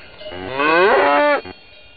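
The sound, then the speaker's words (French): A single loud, drawn-out cow moo rising and bending in pitch, lasting about a second, with faint background noise before and after. “Non, le plus dur, c'était les vaches attrapées.”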